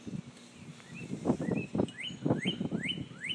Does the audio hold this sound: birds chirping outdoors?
yes